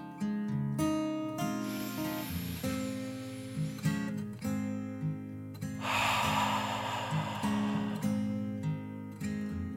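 Two long, breathy whooshes, a slow deep 'dragon breath' inhale and then an exhale, sit over steady soft instrumental music. They are moderately loud, and nobody speaks.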